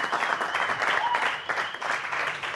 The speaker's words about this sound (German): Wir haben einen Gewinner. Tosenden Applaus bitte hier bei Apfelwein Wagner, meine Damen und Herren. Wahnsinn!